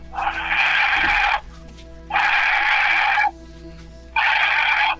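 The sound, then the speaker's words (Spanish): A voice imitates the heavy panting heard from something outside a bathroom, with three long, loud, breathy rasps, each lasting about a second and separated by short pauses, with no talking. “Y bueno, entonces yo sí escuché que ese animal, bueno, supongo que era un animal, se aproximaba hacia el baño y escuché que ahí estaba, que ahí se quedó afuera del baño, y pero empezó a jadear así.”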